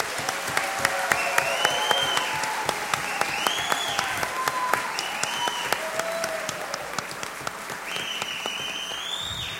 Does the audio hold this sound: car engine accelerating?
no